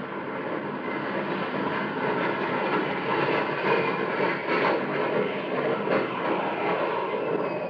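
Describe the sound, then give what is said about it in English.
A steady, broad roar of a formation of shining silver jet planes over Williams Field, pitching out into the landing traffic pattern. Loud and sustained throughout with slight swells, like several planes passing overhead together. No one speaks. “Williams Field, Willie Airpatch, you stand your first day, mouth open, eyes gaping, as above a formation of planes roar over the field in tight, shining silver formation, pitch out into the landing traffic pattern and single file their way in.”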